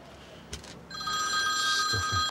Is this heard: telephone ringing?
yes